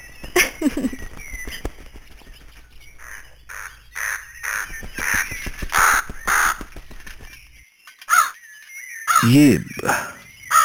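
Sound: crow cawing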